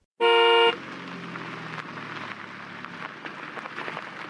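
One loud, brassy blast of a Model T car horn at a drive-in theater cuts in abruptly and lasts about half a second. A steady rumbling, crackling background noise continues afterward.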